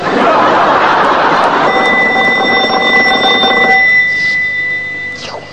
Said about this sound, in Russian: Кто-то звонит.